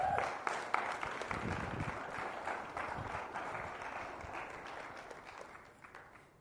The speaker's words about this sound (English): So would you clap for them as they come up here?